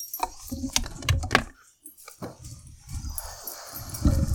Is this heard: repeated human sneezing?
no